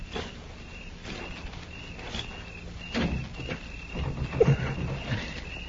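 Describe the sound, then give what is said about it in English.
A bolted door is rattled and shoved several times, each jolt a short clattering knock at irregular intervals, fairly quiet, with no voices. “It's shut, all right. I'm going to try the door.”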